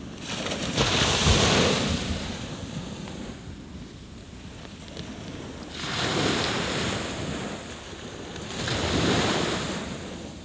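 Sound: sea surf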